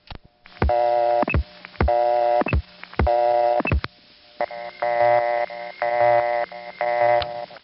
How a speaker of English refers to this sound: By the time the 70s arrived, most busy signals no longer flashed, but occasionally you would find one that did, which is what this one is.